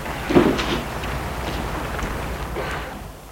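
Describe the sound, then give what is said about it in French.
A short, sharp click as the entrance door latch of a new, modern five-storey apartment building on boulevard Malesherbes releases after an intercom call, followed by a soft rushing swish as the door swings open and people enter, with a fainter second shuffle a couple of seconds later. “Déclic de la porte, ils entrent.”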